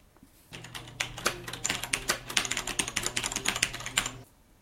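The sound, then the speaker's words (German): Rapid typing on a mechanical keyboard, a dense run of sharp clicking keystrokes lasting a few seconds, fairly loud over a low steady hum, with no one speaking. “Aus diesem Grund können geübte Schreiber auf mechanischen Tastaturen regelrecht mit ihren Fingern über die Tasten fliegen.”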